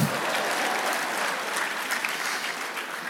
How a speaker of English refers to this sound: okay, clap.